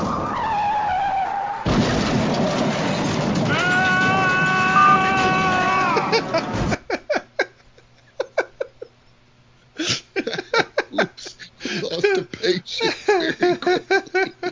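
A long, loud tire screech with a piercing squeal cuts off abruptly. Scattered clicks and clattering follow, then a denser burst of rattling, like a car skidding and crashing.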